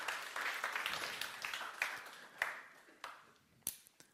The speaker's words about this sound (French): Voilà, on peut l'applaudir. Super.